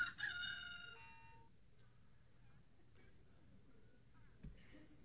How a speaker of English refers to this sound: My good watch quit working with its nice little beep. And I had to go to Radio Shack and buy this stupid rooster just so I wouldn't hold you over too long.